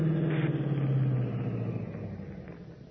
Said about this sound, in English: Then, suddenly, over the deadly piercing tone of Stark's voice, Batman is conscious of another sound, an approaching car.